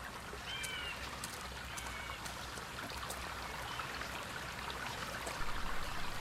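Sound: flowing river stream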